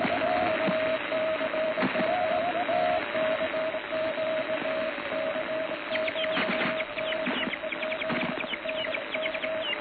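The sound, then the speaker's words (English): Ship radio Morse signals on a busy, hissy band: a steady mid-pitched keyed tone beeps out code while fainter overlapping stations chirp and crackle underneath, with no talking. “Here's a sample of what it sounds like in Europe, or sounded like in Europe, when 500 was watched on a daily basis.”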